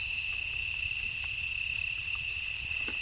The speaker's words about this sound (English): Did you catch that clicking sound? That's a spotted bat. All right, I'll do it one more time.